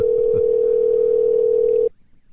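A steady, unbroken telephone dial tone while a call is being placed, humming at a single mid-low pitch for nearly two seconds, then cutting off abruptly, leaving faint background noise.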